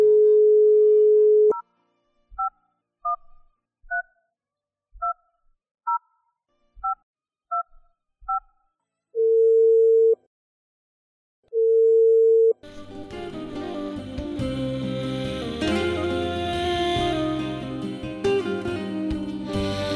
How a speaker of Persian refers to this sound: گوشک تلفن گرفتن و شماره ای را که مادر میخواند با او تلفن زدند.